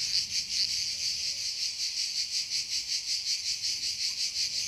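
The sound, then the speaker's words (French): Cicadas buzz steadily in a loud, high-pitched chorus that pulses in a fast, even rhythm, filling the whole stretch with no voices present. “Ainsi, aller à Radaz reviendrait à se jeter, pour un court instant, dans les bras de Morphée à l'heure où chantent les cigales.”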